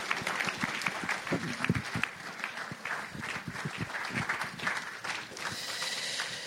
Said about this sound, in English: Let's have a round of applause again for Richard.